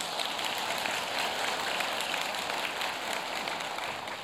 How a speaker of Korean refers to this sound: 그리고 예배를 위해서 섬기시는 모든 봉사자분들, 방송실 직원분들과 또 예배 안내자, 예배 안내하시는 분들은 직분자들이십니다. 안수 집사님 또 권사님들이 섬기고 계시고요. 또 예배 주차 우리 다 같이 박수로 격려하도록 하겠습니다.